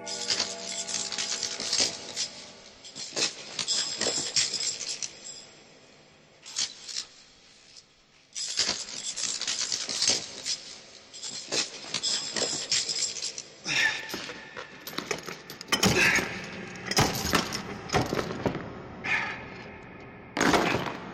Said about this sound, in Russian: Но некоторое время спустя мистера Отиса разбудил странный шум в коридоре. Звуки походили на лязганье металла и, казалось, приближались к комнате.